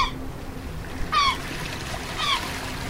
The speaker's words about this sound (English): So as you can hear, we're at the beach. We're recording a whole interview. I'm recording the sounds of the ocean and the sounds of the seagull and maybe the sounds of a crying baby up in the parking lot.